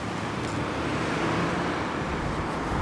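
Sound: road traffic passing by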